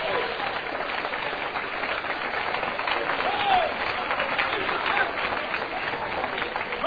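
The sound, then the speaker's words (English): A church audience claps their hands for the Lord in steady, dense applause for several seconds, with faint voices mixed in beneath the clapping. “Give the Lord a good hand clap if you want to be a part of God's church and God's revival.”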